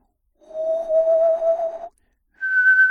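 A person whistles with the soft palate raised, two sustained tones: a long, slightly breathy lower note held for about a second and a half, then after a brief pause a higher, steadier note, fairly loud.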